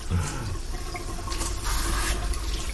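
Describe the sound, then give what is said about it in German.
Water rushes and splashes steadily, swelling louder toward the end as it rinses out the last grainy residue, with no voices. “Also man muss natürlich so ein bisschen sorgfältiger die letzten körnigen Reste hier so ein bisschen ausspülen”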